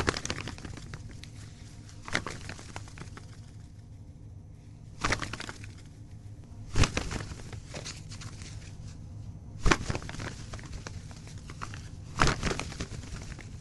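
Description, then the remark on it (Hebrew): Ordinary gardeners' work gloves flapped in a foley studio to mimic the wings of a bird flying off a building or passing across the screen: six or so brisk, papery fluttering bursts at irregular intervals, separated by quiet stretches with faint background noise and no talking. “ובאמת מצאנו שהכפפות, כפפות עבודה רגילות של גננים, עושות בדיוק את הדבר הזה, מספיק גמישות, מספיק מהירות, ומפיקות צליל מולה של ציפור שאפה מבניין, או חולפת על פני המסך.”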